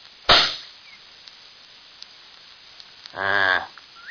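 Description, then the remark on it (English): A single loud, sharp rifle shot, aimed at the middle of a rock to check where the bullet goes, cracks out and fades quickly into near silence, and a few seconds later a short, buzzy harmonic call sounds briefly. “Well, I'm going to aim at the middle of that rock and shoot.”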